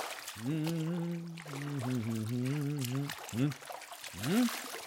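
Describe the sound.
Warm bathwater sloshes and trickles as a man slowly slides into a tub, while a low, drawn-out voiced hum or groan rises over the splashing, followed by a couple of short vocal sighs.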